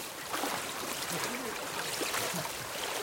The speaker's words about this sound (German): Schnell rein oder langsam testen? Normal eben. Natürlich, biologisch. Zack, ist er im Wasser.